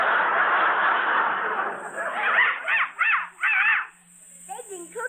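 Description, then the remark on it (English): A small dog, just taken out of a box as a present for children, yaps four or five times in a quick, shrill run following a stretch of steady hiss, then a few softer yelps trail off. “It's still barking. Children, please, this is a real dog.”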